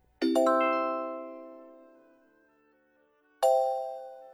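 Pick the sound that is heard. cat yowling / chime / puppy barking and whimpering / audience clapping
chime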